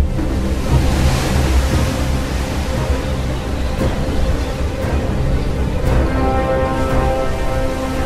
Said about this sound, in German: In der Nacht gibt es dann Sturm und Wellen so hoch wie Einfamilienhäuser.